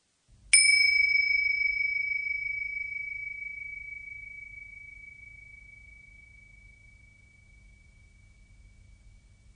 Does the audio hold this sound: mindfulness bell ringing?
yes